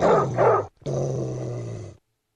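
A dog gives two quick barks, pauses briefly, then lets out a steady, rumbling growl lasting about a second before it cuts off into silence.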